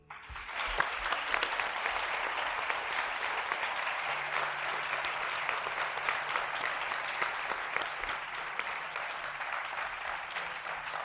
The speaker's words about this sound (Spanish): Lo primero que quiero es pedir un aplauso para todo el equipo y para los que van a venir a continuación.